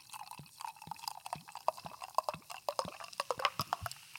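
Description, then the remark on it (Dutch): A homemade carbonated drink being poured from a bottle into two glasses, with a busy crackle of fizzing bubbles and small irregular pops running throughout, moderately quiet, no voices. “Die twee, ik ga ze even inschenken.”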